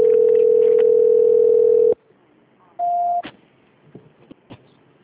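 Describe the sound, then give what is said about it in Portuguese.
A telephone ringback tone during a call transfer: a loud, steady electronic tone holds for about two seconds, then the line goes quiet except for a short higher beep and a few faint clicks. “Transferência. Auditoria não vai atender?”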